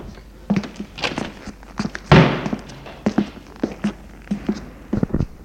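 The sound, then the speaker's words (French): A door is opened amid a series of dull thuds and taps, with a louder burst of handling noise near the middle. No one speaks. “Ouvre la porte.”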